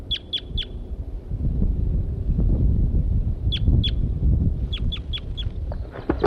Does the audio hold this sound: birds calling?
yes